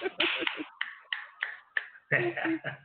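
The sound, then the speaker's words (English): An audience snapping their fingers after a spoken-word poem, a dense patter of sharp, overlapping clicks in an irregular rhythm, with some voices rising under the snaps toward the end. “Am I supposed to snap or clap?”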